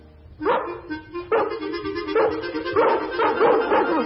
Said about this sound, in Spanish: A veces por las noches hasta me parece oírlos ladrar.